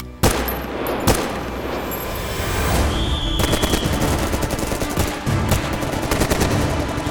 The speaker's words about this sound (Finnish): Hyppäämme maihin. Ammumme samalla ensimmäiset niin sanotut heittolaukaukset.